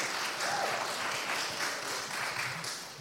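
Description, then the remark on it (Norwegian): An audience applauds steadily for a few seconds, a dense wash of many hands clapping at even loudness, with a faint voice briefly audible underneath. “Ja, det, er, så, ja, det var det lov å klappe.”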